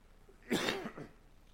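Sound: coughing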